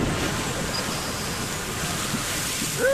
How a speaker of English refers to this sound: Well, there's not enough room down there for water and all that steam, so it all gets pushed rapidly out the opening of the geyser, high into the air.